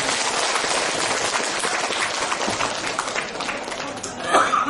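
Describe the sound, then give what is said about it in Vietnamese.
Audience applause welcoming a Buddhist nun to the stage before a dharma talk: a steady wash, dense and continuous, with many hands clapping at once for several seconds at a fairly loud level. “Mình cho một tràng pháo tay cho lên sư cô.”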